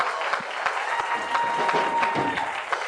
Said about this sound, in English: Come on, give yourself a hand clap tonight.